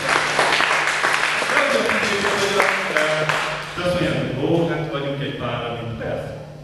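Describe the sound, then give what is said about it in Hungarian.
Sustained applause for Jesus from a crowd, a dense steady patter of many hands, with voices calling out and cheering over it, fairly loud throughout. “Lehet tapsolni neki.”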